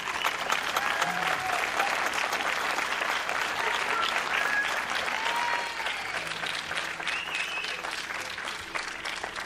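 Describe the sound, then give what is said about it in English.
A crowd applauds steadily and loudly as a band is clapped onto the stage, a dense wash of clapping that holds for the full stretch with scattered cheers and whistles rising above it, easing slightly toward the end. “Let's clap them onto the stage.”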